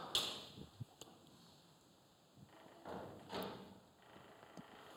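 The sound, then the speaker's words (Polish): A window creaks and scrapes as it is pushed shut, with a few soft knocks and thuds spread over several seconds, fairly quiet, with no one talking. “Jesteś jak to okno, skrzypisz i trzeszczysz, czy naprawdę można z ciebie korzystać?”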